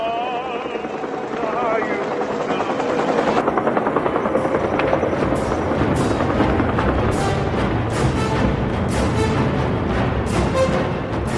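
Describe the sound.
A loud, overloaded military helicopter's rotor chops steadily during the evacuation from Saigon, its rapid rhythmic thumping filling the scene, with indistinct voices of panicked Vietnamese people shouting mixed in beneath the roar.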